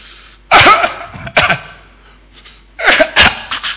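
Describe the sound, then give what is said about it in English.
A person imitates the heavy, rasping cough of a man a little over 60 who was smoking: four loud, harsh bursts, falling into two pairs with a short gap between them, and no talking. “He was smoking and he was coughing.”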